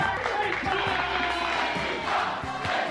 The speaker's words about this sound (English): The men laughed, they cheered, they broke into applause.